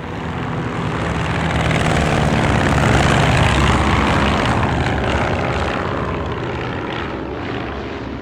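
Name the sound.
propeller airplanes flying overhead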